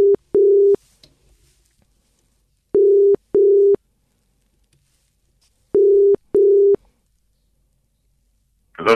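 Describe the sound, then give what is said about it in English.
A telephone ringback tone for an outgoing call: a steady electronic tone in paired double bursts, repeating three times with pauses between, clear and alone, with a brief noise at the very end. “Ooh, I hope that's your phone ringing.”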